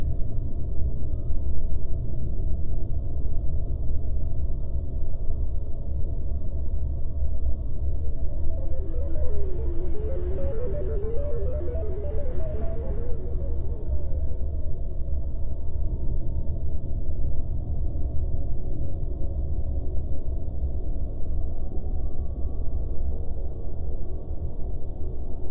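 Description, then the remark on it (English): A quick cluster of electronic satellite beeps and chirps rises briefly over a steady low rumbling drone, then fades back into the continuous hum. “Can you hear the beeping of a satellite?”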